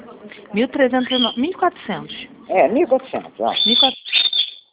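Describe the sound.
A cockatiel calls repeatedly with loud, warbling whistles and rising and falling chirps as people talk alongside it.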